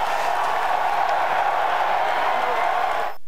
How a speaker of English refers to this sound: Listen to that crowd. Listen.